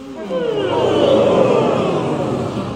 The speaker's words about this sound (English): Lovely, and a nice big yawn, please.